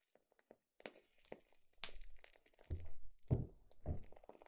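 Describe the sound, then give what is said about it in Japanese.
A wooden candle wick crackles as it burns: soft, irregular pops and snaps, sparse at first and then coming in denser, slightly fuller bursts, all fairly quiet and with no voices. “芯が木でできていて、焚き火をしている時のようにパチパチと音がするんです。”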